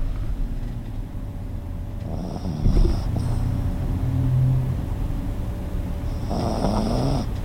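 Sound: pet snoring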